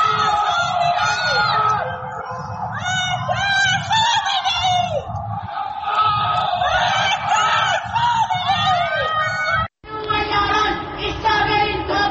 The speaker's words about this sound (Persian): در یکی از ویدئوهای منتشر شده معترضان از پنجره فریاد مرگ بر خامنه‌ای سر می‌دهند، در حالی که در پس زمینه آتشبازی جمهوری اسلامی به مناسبت سالگرد انقلاب 57 دیده می‌شود.